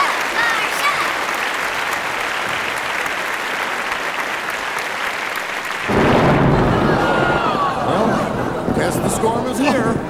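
Steady clapping fills the first half, then a heavy rumble of thunder rolls in with a dense hiss of pouring rain that continues to the end.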